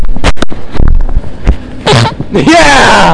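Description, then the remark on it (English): A short, low, raspy fart that drops in pitch, loud, set among sharp noisy bursts and excited voices reacting. “That's two farts on the show.”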